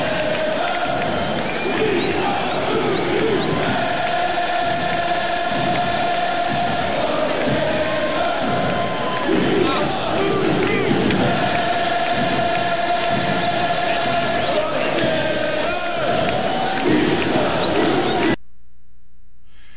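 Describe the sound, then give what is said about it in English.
A huge crowd of Timbers Army soccer supporters roars loudly and continuously, a dense wall of cheering and chanting voices that holds steady for about eighteen seconds before cutting off abruptly. “That sound you heard was the Timbers Army.”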